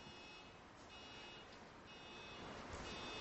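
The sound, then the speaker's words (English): A car alarm blares from somewhere outside, its shrill electronic tones cycling steadily over a wash of background noise, with no one talking. “As that car is imposing a wonderful sound in my ears, I'm deaf in one ear, can hardly hear out the other, and I've got this blasting thing happening.”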